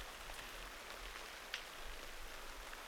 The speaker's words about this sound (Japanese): 強い風、びっくりしましたね。